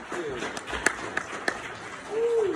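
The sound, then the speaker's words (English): A crowd applauds the original voice cast of the Teenage Mutant Ninja Turtles with a steady wash of clapping, a few sharper claps standing out, while voices whoop and cheer in rising and falling hoots over it. “Hey, let's get another round of applause for the original voice cast of the Teenage Mutant Ninja Turtles.”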